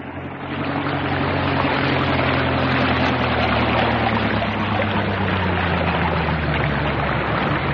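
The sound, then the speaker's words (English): A boat motors steadily through water toward an island, to put in alongside another boat already there, its low engine drone layered under a constant loud rush and splash of water against the hull, unbroken throughout. “There's a boat there already. I'll put in alongside it.”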